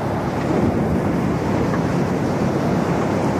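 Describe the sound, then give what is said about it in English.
Steady roar of ocean surf with huge waves and gusting sea wind, loud, with broad rumbling wash filling the whole stretch and no voices. “But as Granny Island steered the ferry boat alongside, a huge wave lifted the rope off the handle and the hut started to drift out to sea again.”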